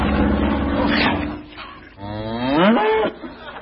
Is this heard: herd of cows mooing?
yes